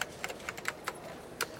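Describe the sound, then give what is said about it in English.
Irregular clicks of children typing on a computer keyboard at school, a handful of light, crisp keystrokes at uneven intervals with a pause before a final tap, fairly quiet, with no voices. “They are using a keyboard and looking at the screen.”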